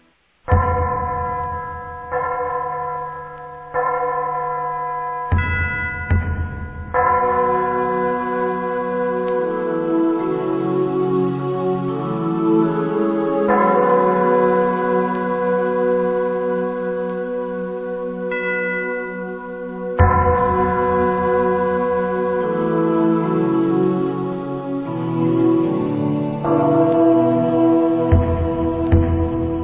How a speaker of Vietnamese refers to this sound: Chuông trống vang lên, rồi cánh cửa chính bỗng mở rộng.